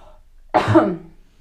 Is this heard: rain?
no